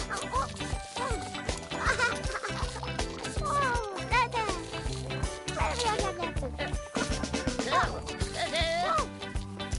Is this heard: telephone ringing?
no